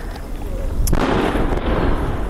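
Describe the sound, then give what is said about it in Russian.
A sharp crack of artillery fire bursts out, followed by a heavy, sustained rumbling roar that lingers over a constant background hiss. No one speaks. “Тільки постріли арти, постріли арти і звук техніки. ПВО працює.”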